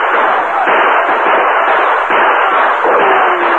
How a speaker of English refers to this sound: Their last volley stopped the outlaws' charge, and six of the renegades were hit.